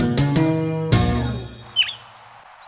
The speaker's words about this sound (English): Some bird songs, like that of the scaly-breasted thrasher, are simple and repetitive.